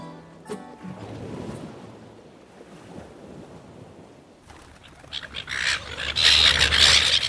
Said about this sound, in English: Oh, get out of it, bloody seagulls.